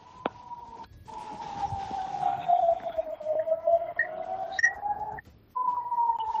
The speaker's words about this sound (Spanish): Nos hemos tenido que refugiar en el hotel Ruth Damien y ha sido cuando han sonado las sirenas.